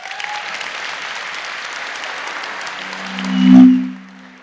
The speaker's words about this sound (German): Applaus für den Herrn vom Ton.